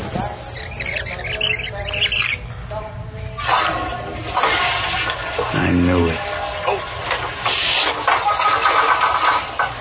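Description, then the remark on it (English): A toilet, flushed by Jinxie, flushes with a loud, continuous rush of swirling water that fills the whole stretch, gurgling and surging, while muffled voices and clatter sit faintly underneath. “Let's just see if you really can flush the toilet, Jinxie.”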